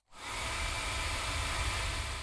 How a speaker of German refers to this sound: Wenn ihr den Föhn so haltet, dass er im rechten Winkel am Mikrofon vorbeibläst, hört sich das dann so an.